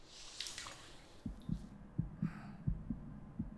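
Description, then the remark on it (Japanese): A quick, steady heartbeat, faster than usual, thumps in muffled low pulses, heard through a chest as if with an ear pressed to it, with a faint rustle of movement near the start. “今日は本当にいつもより心臓の音が早いね。”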